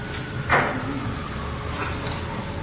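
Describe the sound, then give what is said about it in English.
A door opens with a single short clunk and scrape, followed by quiet with a low background hum and no voices. “Okay, I'll open the door.”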